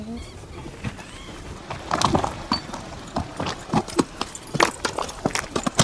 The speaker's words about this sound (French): qui va à l'école à dos de cheval avec sa petite sœur. Il traverse les vallées de Patagonie.